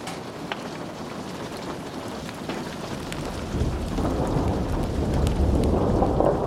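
A thunderstorm with steady rain pattering against window panes, scattered sharp drops ticking on the glass, and a low rumble of thunder swelling louder toward the end. No voices.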